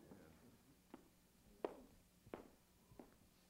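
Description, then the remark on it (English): Four evenly paced footsteps thud across a hard, hollow-sounding stage floor, each step a sharp knock with a short echo and no talking in between. “You make a statement, and then you're quiet, and all you hear is my footsteps.”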